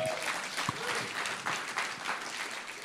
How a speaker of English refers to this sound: You may be seated. How about giving the Lord a clap?